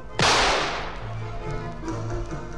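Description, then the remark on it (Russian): A single loud shotgun blast cracks out sharply, then fades slowly into a long, low rumbling tail with a faint hum underneath and no voices. “А ну-ка я сейчас как бабахну в черти из ружьишка.”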